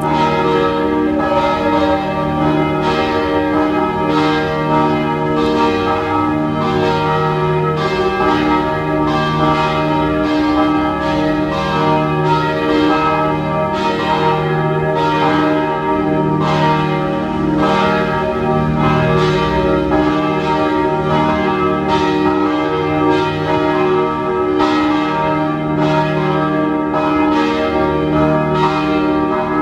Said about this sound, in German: Es ist 12 Uhr. Sie hören die Glocken der Pfarrkirche Penzing im 14. Wiener Gemeindebezirk.